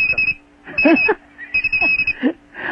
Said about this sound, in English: is that the smoke alarm going off? No. No, that's just the Captain Crunch whistle.